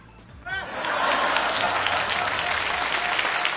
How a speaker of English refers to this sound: Yay, I tell you what, let's have a little clap.